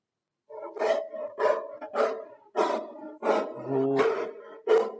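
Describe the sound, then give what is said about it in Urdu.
A dog barks repeatedly in a series of loud, harsh bursts, with a deeper sustained growl running beneath the later barks. No one speaks. “چلے جی پھر اب بتائیں کون سی تھی یہ آواز, کس کی تھی؟ ڈوگی. جی کتے کی.”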